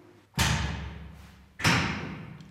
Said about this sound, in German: Oh, und jetzt geht die Tür da draußen auch noch zu.